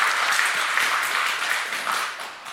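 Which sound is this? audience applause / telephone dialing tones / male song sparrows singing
audience applause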